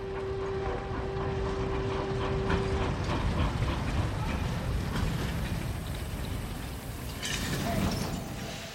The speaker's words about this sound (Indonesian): menaiki kereta menuju Seoul dan turun di stasiun Kimcheon.